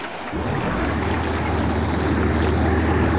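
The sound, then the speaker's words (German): A motorboat engine, started by turning a key, catches almost at once and settles into a loud, steady low rumble, with rushing water and wind noise blended around it. “Der Motor läuft.”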